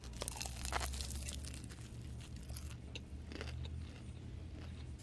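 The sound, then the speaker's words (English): Crunchy bites and chewing of a crisp fried egg roll with a cabbage filling, with irregular crackling crunches over a low, steady background hum and no talking. “All right, I'm going to try the egg roll first.”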